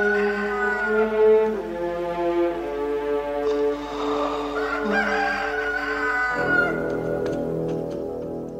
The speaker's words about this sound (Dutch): En Petrus mag weggaan. Maar dan hoort hij een haan driemaal kraaien.